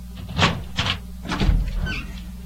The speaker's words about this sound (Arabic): افتح افتح الباب وانا ابوك ان شاء الله طال عمرك.